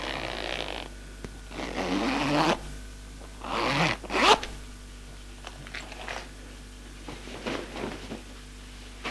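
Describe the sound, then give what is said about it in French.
Several quick zipper pulls rasp, each a short bright burst, mixed with soft rustling of fabric as a woman undresses a man; no one speaks. “Elle sourit, le trouve à croquer, se penche et le déshabille.”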